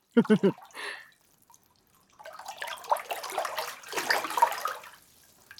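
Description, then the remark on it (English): Water drips and trickles in a hot spring in a steady wash of wet sound, swelling and fading over several seconds, after a few brief vocal noises at the start. “So just get in the water and chill, newbie.”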